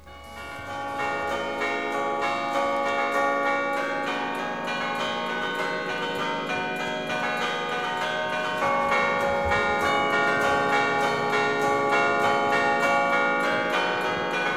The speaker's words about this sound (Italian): In cima al campanile, magari non tutti sanno, c'è una tastiera. Una tastiera con dei tasti molto grandi, infatti si suona coi pugni. Ogni pugno un tasto e ogni tasto una campana.